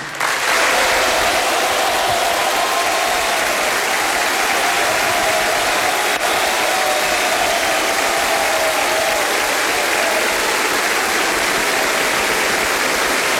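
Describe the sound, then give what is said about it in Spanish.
Loud, sustained applause from a large crowd fills the Salón de Honor of the National Congress as president-elect José Antonio Kast enters, walking down the centre. A dense wash of clapping stays steady and unbroken throughout with no speech. “Un aplauso atronador se escucha en el Salón de Honor mientras José Antonio Kast comienza a hacer ingreso al salón caminando por el centro,”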